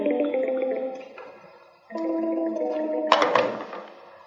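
A SNOM desk phone on extension 2003 rings with its standard warbling, bubbling electronic ringtone in two bursts of stacked harmonic notes, the second ending in a brighter, noisier flourish, with a brief dip between them.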